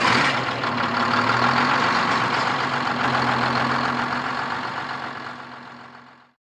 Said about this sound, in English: He jumped in the truck and turned on the ignition.